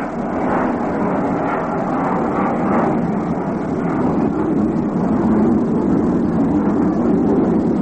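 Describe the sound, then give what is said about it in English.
A steady, loud airplane roar fills the whole stretch, a broad rumbling drone that holds constant and swells slightly toward the end as the aircraft passes overhead during a Mets baseball game, with play held up until the plane gets by. No voices. “He calls down and backs out until a plane gets by.”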